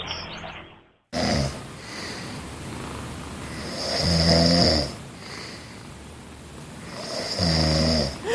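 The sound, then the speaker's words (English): A man snores loudly on a Saturday morning in slow, rhythmic cycles, each breath a rasping rumble, with a cat purring softly underneath between the snores. “It is the sound of her Saturday morning, a snoring man.”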